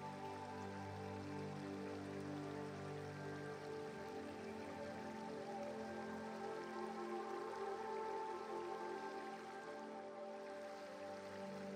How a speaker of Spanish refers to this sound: Escuchando el sonido de fondo del río, sintiendo la frescura de la sombra que los árboles proyectan y al mismo tiempo sintiendo los rayos del sol que se filtran entre sus ramas besándote la piel.